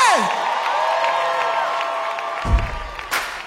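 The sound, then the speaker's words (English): A crowd cheers and whoops loudly as a performer is called to the stage, with sustained high voices ringing over a steady roar and a couple of sharper bursts near the end. “Y'all make some real big noise for my brother”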